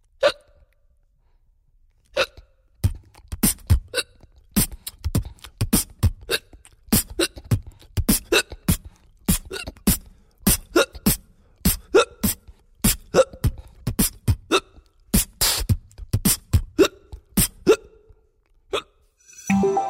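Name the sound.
hiccups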